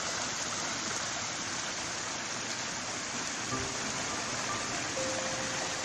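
Steady rushing of flowing stream water on an estate, meandering down toward ponds, lakes and the River Derwent; a dense continuous wash that stays even and fairly loud throughout, with a faint thin tone drifting in near the end.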